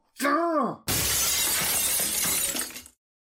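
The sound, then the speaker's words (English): A glass award being handed over at the DWAS Capitol Convention hits a hard floor and shatters loudly, a sharp ringing impact followed by a couple of seconds of dense, scattering shards before it stops abruptly. “Can we get someone to sweep this up, please?”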